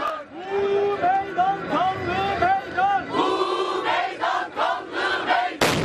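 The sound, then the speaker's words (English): A large outdoor crowd at a peace rally in Turkey's capital chants and sings together in rising, rhythmic calls, then a sudden loud bomb blast, set off by suspected suicide bombers, bursts in at the very end, cutting the crowd off. “Video shot at the peace rally captured the festive atmosphere moments before the blast, then carnage.”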